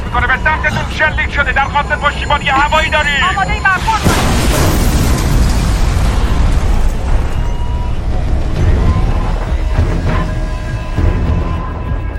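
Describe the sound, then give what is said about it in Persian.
Raised voices give way to a sudden, loud explosion as a missile fired from the mainland strikes a ship, bursting into a roaring, rumbling blast, then fading into continued low booming and debris-like noise with scattered voices. “موشک‌های بیشتری دارن میان.”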